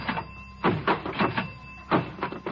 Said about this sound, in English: I'm testing the diving board!